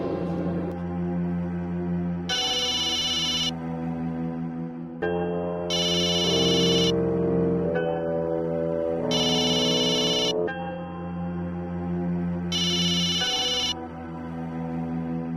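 A telephone rings in four evenly spaced bright bursts, roughly every three seconds, layered over a loud, steady musical backing with no voices.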